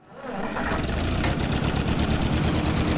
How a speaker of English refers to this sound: This 1947 Ford 2N tractor is the same age as its owner